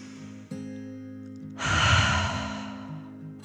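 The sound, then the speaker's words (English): A slow, deep calming 'dragon breath' drawn in and then let out in a long, airy sigh, fairly loud, over a soft, steady musical drone with no talking. “Then one more deep dragon breath, in and out.”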